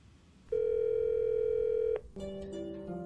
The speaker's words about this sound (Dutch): Wat durf jij tegen niemand te zeggen? Spreek het uit tegen een luisterend oor na de piep en word onderdeel van de collectieve biecht van Hardhoofd.